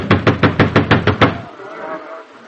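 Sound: knocking on a door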